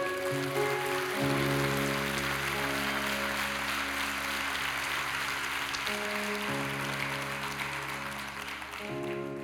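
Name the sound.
audience applauding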